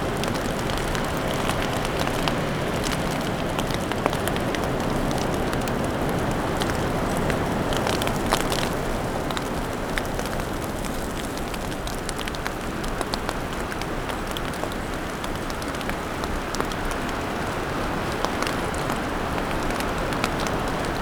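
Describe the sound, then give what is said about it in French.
A light snow shower falls with a steady, dense hiss and fine crackling patter, even in level throughout, with a faint breath of wind and no voices. “Petite averse de neige.”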